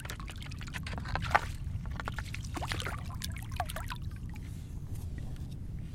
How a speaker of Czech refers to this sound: A se dělají ještě větší vlny. Teď se dělají pomalu větší vlny. Vystříká jedna z vln